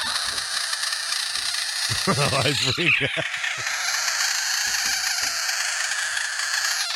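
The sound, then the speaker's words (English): A Budgett's frog, a South American species, found in a home and touched, lets out a brief, loud, wavering scream that rises and falls in pitch for about a second, over a steady hiss, with a person speaking briefly. “Research shows that is called a budget frog.”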